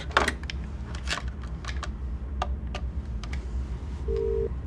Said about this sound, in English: Then, in the room, she picks up the phone and dials 0.